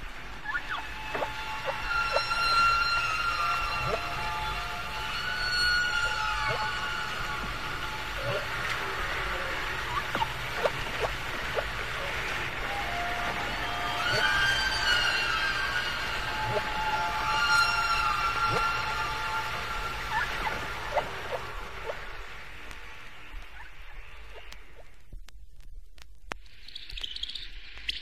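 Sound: humpback whale song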